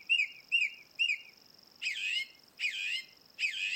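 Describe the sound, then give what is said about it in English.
A song thrush in Kerry sings a short note three times in quick succession, then a longer, richer phrase three times, with a faint steady high hum behind it, heard alone. “Brendan Galvin in Kerry sent us this beautiful song thrush”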